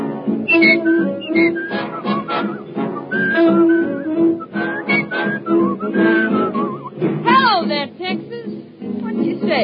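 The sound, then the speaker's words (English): A person whistles a lilting tune, the bright melody rising and falling continuously over several seconds, with voices murmuring along underneath. “What you doing, whistling, just to scare the ghosts away?”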